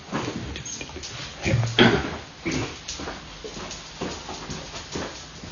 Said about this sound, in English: Oh, I've got a dog here that wants me to do something.